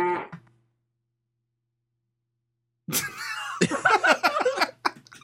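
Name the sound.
cow mooing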